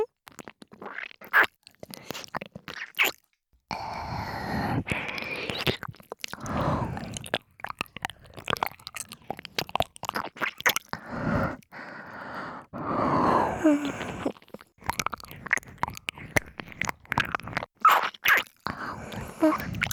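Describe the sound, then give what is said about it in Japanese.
Continuous wet licking and smacking mouth sounds, dense clusters of moist clicks and slurps with brief breathy pauses, fairly loud and steady throughout with no talking. “気持ちいい水の音いっぱいあげますね。”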